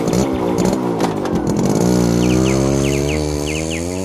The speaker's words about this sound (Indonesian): Dengan mengendarai motor, mereka menuju sawah.